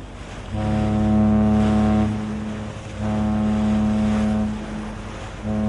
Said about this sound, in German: Ein Frachtschiff auf dem Weg nach Basel. Normalerweise liegt es tief im Wasser. Voll beladen mit Container, Getreide oder Treibstoff.